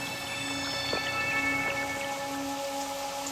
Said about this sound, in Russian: А с неба из облака все лил и лил дождь.